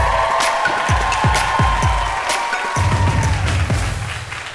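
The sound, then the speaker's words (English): A loud comedy show audience cheers and applauds without pause as the final act of the evening is brought on, with dense clapping, a steady high whistle-like tone and rhythmic low thumps beating underneath for several seconds. “Make some noise, please.”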